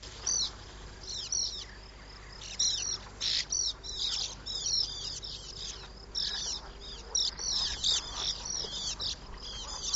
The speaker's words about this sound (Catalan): I d'aquí una mica el nom, no? Oreneta de Ribera.